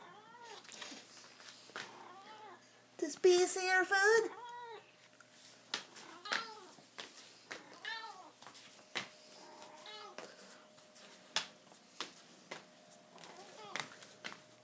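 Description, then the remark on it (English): A pet cat named Bee meows over and over as her food bowl is taken out, short chirpy cries spaced every second or so, with one louder, drawn-out yowl near the start. “Are you talking to all the cats on an Audioboo land?”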